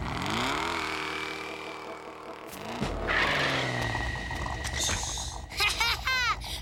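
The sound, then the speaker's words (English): A car borrowed from Doc revs and pulls away, followed by a burst of rough noise and then high, wavering tire squeals as it skids off, loud throughout. “Thanks for loaning me the car, Doc. I'll be back in a flash.”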